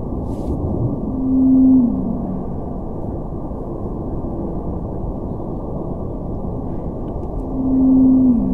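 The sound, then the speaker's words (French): Two long, steady tonal moans rise out of a constant low rumbling noise floor, one early and one near the end, like sped-up Antarctic blue whale calls heard through an underwater recording. “Là, on vient d'entendre deux vocalises de baleines bleues antarctiques.”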